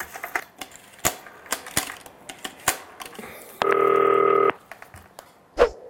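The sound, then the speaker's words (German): A quick series of sharp clicks from keys being dialed on a green telephone to place a call, followed by a single steady electronic ringing tone lasting about a second, then one last click. Clear, with no voices. “Ich ruf den jetzt mal an. Grünes Telefon.”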